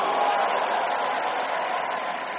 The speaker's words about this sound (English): Somebody give the Lord a praise for what he did for us there. Give the Lord a bigger, bigger clap and a shout of praise. A bigger, bigger clap and a louder shout of praise.